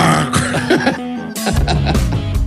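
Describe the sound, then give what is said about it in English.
A news anchor's rough, throaty cough that sounds much like a burp, during a report that O.J. Simpson was granted parole: a gravelly, voiced rasp followed by a harsher, louder guttural burst that trails off, with no talking. “It's like a burp and vomit together.”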